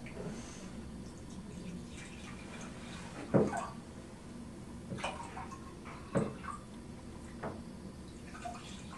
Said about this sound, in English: I'm going to pour blue water into each of these cups, and you're going to have to tell me when they're when they have the same amount, okay?